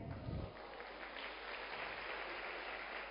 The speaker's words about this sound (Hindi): जितना ड्रामा में दम था उतना आपकी तालियों में नहीं है।